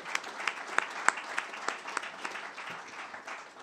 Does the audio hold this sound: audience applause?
yes